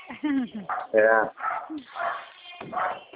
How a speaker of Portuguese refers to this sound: Cachorro tá bravo, né? Tá, tá cachorro bravo. É por causa dos gados, ele não pode ver os gados, que ele começa a latir.